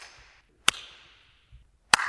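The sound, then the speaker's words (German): Two sharp handclaps about a second apart in a huge, very high hall with a reverberation time of about 1.5 to 1.8 seconds. Each clap is followed by a long, ringing reverberant tail that fades out slowly. No voices, just the claps and their echoing decay. “So, jetzt das letzte Klatschen. So etwa diese Nachhaltzeit, die gebraucht wird.”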